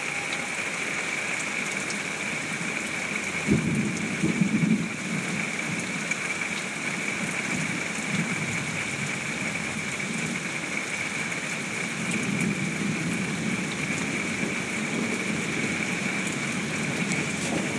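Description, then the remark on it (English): Heavy rain from a summer thunderstorm pours down in a steady, dense roar that never lets up, heard from under a house porch, with a brief low rumble early on and no voices. “Just thought you guys might enjoy a few minutes of that big rain storm there.”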